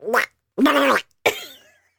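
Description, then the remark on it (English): A voice imitates Donald Duck in three short, raspy, gargling squawks separated by brief pauses; the middle one is the loudest and steadiest, and the last trails off. “We have gotten more requests for your Donald Duck voice.”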